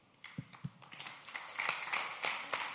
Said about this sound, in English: You're clapping like it's the right interpretation.